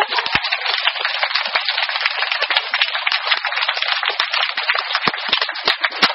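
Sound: audience applause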